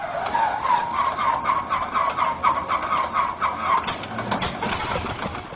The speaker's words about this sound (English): Old-timers in southern Iowa might remember the sound of a reliable training aircraft that roared in the skies over the Ottumwa Naval Air Station in the 1940s.